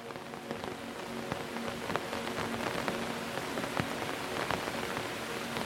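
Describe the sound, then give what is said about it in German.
Steady rain patters on the taut fabric of an umbrella overhead in an old city, with scattered sharper drop hits over a continuous wash. No voices, just even rainfall throughout. “Und so stehst du jetzt hier, mitten in einer alten Stadt, unter dem Schutz deines Regenschirms.”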